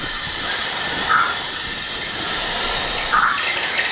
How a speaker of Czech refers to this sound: Jak to souvisí se sluncem, že ze slunce přiletí plazmoid ve slunečním větru, chuchvalec elektronů jontů, ten vybudí tu magnetosféru a v ní se potom objeví takovýhle vlny, čili je to přímý důsledek slunečního větru na naší magnetosféru.